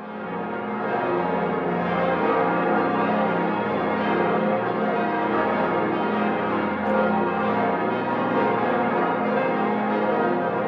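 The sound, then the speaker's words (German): A full peal of the twelve large bells of Hildesheim Cathedral rings in Christmas 2014, deep overlapping tones blending into a loud, dense, reverberant wash with no voices present. “Die Glocken des Hildesheimer Doms, die nun die Weihnacht 2014 einläuten, besitzen ihre Klangfülle erst seit wenigen Monaten.”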